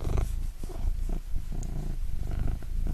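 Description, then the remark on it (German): A cat, Grisou, purrs steadily, a low rumbling vibration pulsing in a continuous rhythm, rubbing against the microphone, with no talking over it. “Kann die Katze mal schnurren?”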